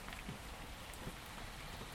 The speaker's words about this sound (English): So, it's a dreich morning. But the rain's just coming straight down. It's not like gusting or driving or that horrible way.